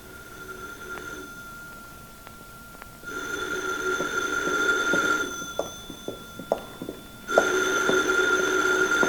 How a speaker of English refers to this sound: Why don't you get the phone, Myers? You answer that and we could be in trouble.